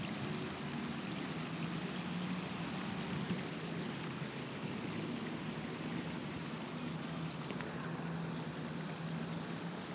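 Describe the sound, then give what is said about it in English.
Water flows gently and steadily down the surface of a sculpture with a metallic sheen, in sunlight, a soft continuous wash of trickling sound with a low hum beneath it and no one speaking. “Water that just seems to be gently flowing down some kind of surface.”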